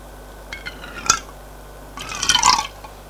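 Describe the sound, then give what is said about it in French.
A maid serving tea pours tea and a drop of milk into a cup with a soft trickling splash, preceded by a light clink of china. Fairly quiet, with no talking. “Elle va le déposer sur la table basse. puis fait le service, elle demande à Elsie, lait, sucre, citron.”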